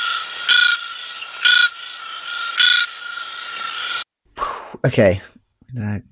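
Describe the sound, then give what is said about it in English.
A frog calls in three loud, evenly spaced pulses over a steady high-pitched trilling chorus, followed by brief excited human voices after the chorus stops. “I think it's a medium frog.”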